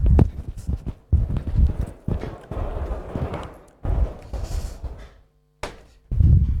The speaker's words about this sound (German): Ich mache einfach mal kurz die Tür zu.